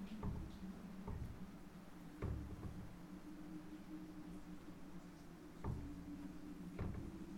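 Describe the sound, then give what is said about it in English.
A door thumps and clatters several times at uneven intervals, with solid knocks standing out against a steady low mechanical hum that drones underneath throughout. “Gotta get that door.”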